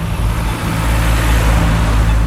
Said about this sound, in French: La ville, c'est circuler, y a rien à voir. Trop de bagnoles.